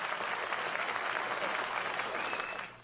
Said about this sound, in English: applause, please.